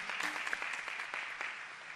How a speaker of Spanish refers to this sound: Le damos un aplauso.